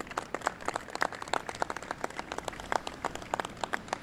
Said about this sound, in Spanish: La verdad que eso merece que nos demos un aplauso todos.